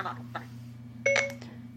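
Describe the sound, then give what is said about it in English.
A quick electronic chime, a pair of clean steady tones from an iPhone as notifications come in, sounds briefly over a low background hum, with faint murmuring voices. “my iPhone is really my iPhone's really having a cow and having fun with notifications that are coming in, a lot of notifications.”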